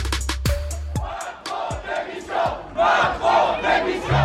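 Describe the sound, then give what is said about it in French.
A loud crowd of protesters shouting angrily, voices overlapping in rising waves of chanting and yelling, punctuated by sharp bangs and thuds in the first seconds. “Alors comment répondre à la colère du peuple? Eh bien, on écoute justement cette colère.”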